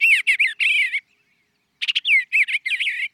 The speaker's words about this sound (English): But did you know that some bird songs contain secret messages? Like this sweet singing eastern bluebird.